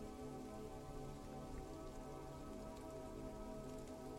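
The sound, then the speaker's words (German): Steady rain falls on a surface, a dense continuous patter of raindrops at an even level with no pauses, no voices present. “Jeder Tropfen macht es dir noch mehr möglich, tiefer zu gehen, noch mehr zu entspannen und deinen Weg in den Schlaf zu finden.”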